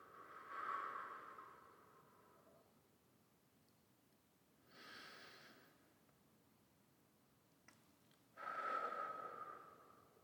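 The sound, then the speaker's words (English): Slow, deep breaths drawn in and pushed out, three airy whooshes separated by quiet pauses, with no talking; a person inhales and exhales deeply three times, emptying the belly of air. “Inhale and exhale deeply 3 times, as if you were emptying your belly of old air.”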